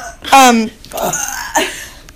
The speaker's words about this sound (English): She's having some burping issues.